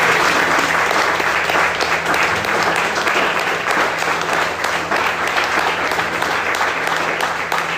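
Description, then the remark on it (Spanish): A room full of people claps steadily for several seconds after a prayer presenting a child, a dense, even wash of applause with a faint low hum underneath and no pauses. “Den un aplauso.”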